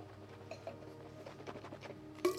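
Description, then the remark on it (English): A person spits out a sip of drink: a short, wet splattering burst right at the end, after a couple of seconds of quiet background with faint ticks and patters. “That's a forward spit.”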